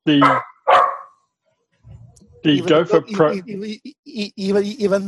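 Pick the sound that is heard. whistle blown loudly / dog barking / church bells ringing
dog barking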